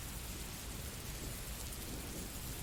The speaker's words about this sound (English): Keep me safe from the thunder. We'll be fine.